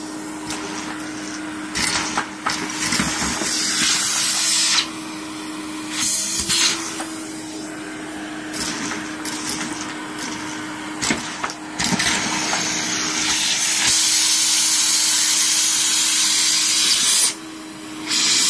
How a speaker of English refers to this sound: Hoover up the little ones.